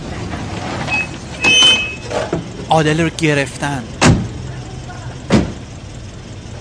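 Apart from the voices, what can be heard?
police car arriving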